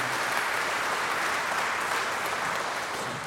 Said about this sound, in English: Also, I think we should just give a hand clap